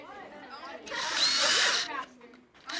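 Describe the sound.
A power drill whirs loudly for about a second, boring holes into students' cut-out plastic art pieces so they can be connected by wires, with a bright, high-pitched grinding whine, framed by brief speech before and after.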